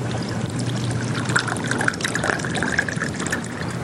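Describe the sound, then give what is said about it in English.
A bartender pours bourbon steadily from a bottle into a highball glass at a bar counter for about four seconds. The pour makes a continuous gurgling splash with a faint ringing tone, and no voices are present. “He fills the glass.”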